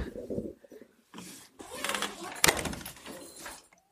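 Rustling and clattering build up to a single sharp thud of a door shutting partway through, followed by more shuffling movement that fades out at the end.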